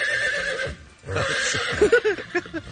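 A horse whinnies loudly, a long shrill neigh that wavers and breaks into shorter snorting bursts near the end.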